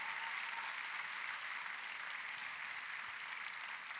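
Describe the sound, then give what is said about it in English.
An audience claps for the Lord during a church service at Agape House, New Testament Church, a dense, even wash of many hands with no clear individual beats, holding at a constant loudness throughout with no voices standing out. “All right, if you're already clapping, then do it better for the Lord.”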